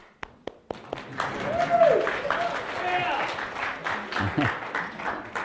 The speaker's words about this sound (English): He loves the clapping, I think, so just kidding.